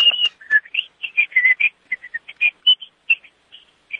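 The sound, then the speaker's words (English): A person whistles a quick, choppy tune of short notes with pitch jumps and brief gaps, sounding thin and band-limited as if over a phone line, with no talking. “Yes, I'm going to whistle. I don't know how it's going to come across on the phone.”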